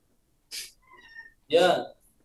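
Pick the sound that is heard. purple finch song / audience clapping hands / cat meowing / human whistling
cat meowing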